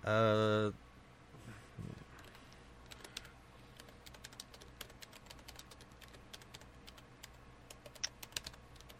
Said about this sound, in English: I'm coming up with titles at the moment in my head. I'm kind of typing them out.